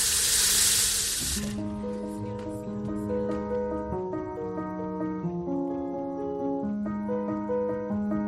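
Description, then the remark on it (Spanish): A short, loud rush of water pouring from a tap for about a second, cut off abruptly as sustained tonal music begins and carries on to the end. “El grifo corriendo es una de las opciones que tienes para poder beber, pero no es la única.”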